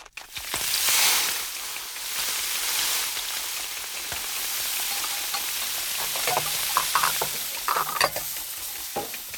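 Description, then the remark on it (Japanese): Steady, rapid scraping and swishing of a whisk whipping fresh cream in a bowl, a continuous bright hiss with occasional sharper clinks, running throughout without any voices. “ええ、生クリームを泡立てているわ。”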